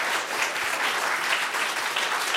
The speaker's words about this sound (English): I want to thank all of the performers for being part of this. I think we need a round of applause for all of them. They are absolutely all outstanding.